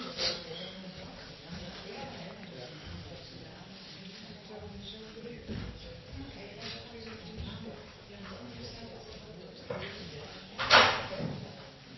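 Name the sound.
door being closed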